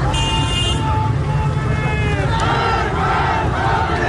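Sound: protest crowd chanting slogans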